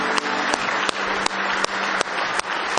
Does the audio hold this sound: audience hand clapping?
yes